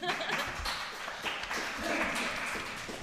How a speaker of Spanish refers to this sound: Un fuerte aplauso.